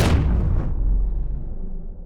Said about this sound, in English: Add an explosion sound or something at the end.